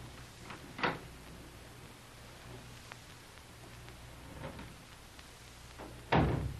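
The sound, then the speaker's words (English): A door opens with a short creak and knock, then after a quiet stretch over a low steady hum, a louder clunk follows. No one speaks. “Here's another door. Let's see where this leads to.”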